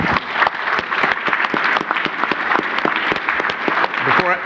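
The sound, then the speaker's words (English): An audience at an education and networking event claps steadily, dense overlapping hand claps at a fairly loud, even level with no voices on top. “This kind of event is not happening elsewhere, and the quality of education and the concept of inspiring and educating and networking is really valuable, and I request an applause for our friends at Altium.”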